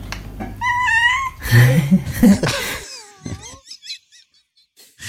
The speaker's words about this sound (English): I think there's two cats there. One saying, say hello, and then the other cat says, hello, clearly.